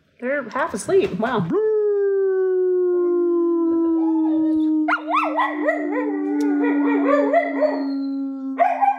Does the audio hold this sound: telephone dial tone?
no